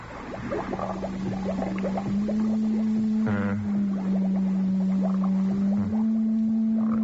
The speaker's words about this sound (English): It's turn on the encephalograph.